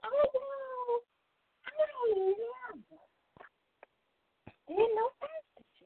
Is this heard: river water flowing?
no